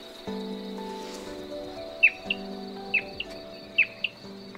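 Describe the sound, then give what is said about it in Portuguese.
A great-billed seed finch song plays from a loudspeaker: bright, sharp whistled notes in short pairs, repeated about three times, over a steady drone of insects and a low background hum. “começou a tocar o canto do bicudinho numa caixa de som.”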